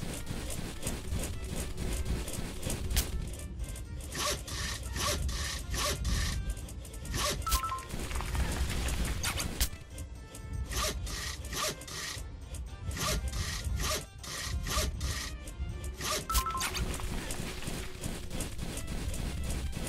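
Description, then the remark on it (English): Steady back-and-forth sawing through fir tree wood in a video game, with repeated rasping strokes in a fast rhythm, fairly loud, continuing throughout with brief pauses between bursts. “Go through the area, approach a fir tree, and press F to place your saw. Then, alternately, press the right and left arrow keys to saw.”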